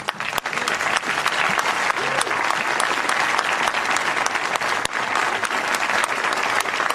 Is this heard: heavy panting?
no